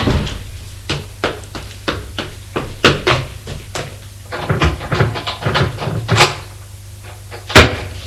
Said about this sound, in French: Porte qui claque.